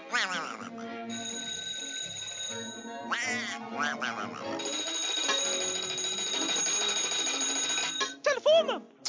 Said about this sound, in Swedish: Telefonen.